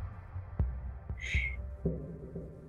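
A soft, low heartbeat thumps steadily, about four beats, over a faint droning hum, with a brief shimmering chime ringing out partway through.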